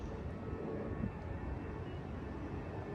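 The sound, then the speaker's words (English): A steady, broad low rumble of an airplane passing overhead, droning evenly with no distinct pauses or peaks, moderately loud and without any voices. “You ever just look up at an airplane and wonder where they're going?”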